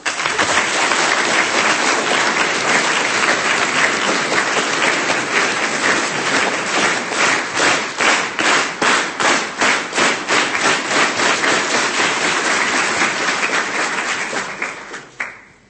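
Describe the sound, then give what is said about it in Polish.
Sustained applause from a crowd at a youth meeting, people thanking one another, fills the whole stretch, dense and loud, settling midway into a rhythmic unison clap before fading out at the end. No voices are heard. “Oklaski najcudowniejsze, bo dziękujemy sobie nawzajem.”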